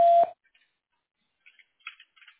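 A single short, loud voicemail beep after an office desk-phone voicemail greeting sounds at the start, a steady electronic tone cut off after a quarter second, followed by near silence with a few faint, soft rustles.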